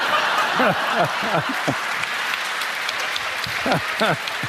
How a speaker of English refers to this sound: And what are you clapping for?